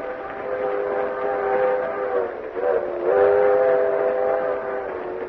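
vehicle, train riding on rails

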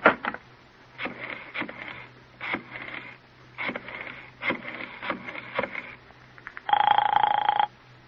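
household object, telephone call being placed

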